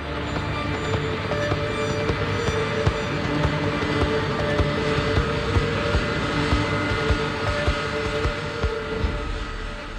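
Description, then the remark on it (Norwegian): A KLM jet airliner roars down the runway, its engines a loud, steady rumble with a droning whine on top, sustained for the whole stretch with no voices. “Nå ser han avkjøringen litt lenger fremme til venstre, og begynner å svinge skarpt, mens de ser KLM-flyet dundre mot dem.”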